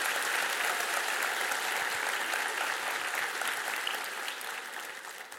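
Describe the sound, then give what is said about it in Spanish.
Sustained applause from an audience during a Spanish-language church sermon, applauding the word of God: a dense, steady wash of clapping hands that holds strong throughout and tapers slightly toward the end, with no voices standing out. “Un aplauso para la palabra de Dios. Un aplauso para la palabra.”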